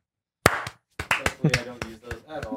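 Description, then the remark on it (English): A sharp hand clap, made to sync audio as recording begins, rings out after a moment of silence, then a string of quicker claps and smacks follows while voices talk underneath. “Sync clap. Just sync it.”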